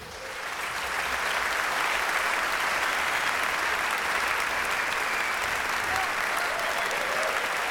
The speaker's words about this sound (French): Donc je vous demande d'applaudir Monsieur Hein van de Geyn à la contrebasse.